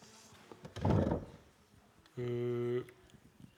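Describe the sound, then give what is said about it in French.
A door shuts with a single dull, muffled thud, and a moment later a short, steady droning tone sounds and stops abruptly. “Alors je vois que quelqu'un a fermé la porte, c'est très bien.”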